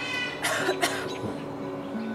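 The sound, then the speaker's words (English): A raven imitates a human cough: two quick, raspy cough bursts close together, clear, over a faint steady background hum. “And sometimes he hears people who have a cold.”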